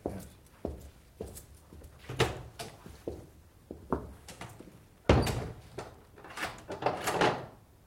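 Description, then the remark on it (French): A door is shut with a solid thud and then locked, amid a series of mechanical clicks, rattles and knocks from the handle and bolt, with no one speaking. “Que faites-vous, mon père? Pourquoi verrouiller la porte?”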